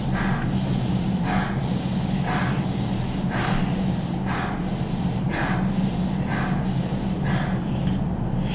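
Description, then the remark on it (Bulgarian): Forceful, rhythmic deep breaths in a powerful breathing exercise, about one per second, each a sharp rushing puff of air, repeating steadily over a constant low background hum with no talking. “Просто дишай, не спирай нищо и си позволи да си вдъха на 100%. Просто дъх. Мощно дишане.”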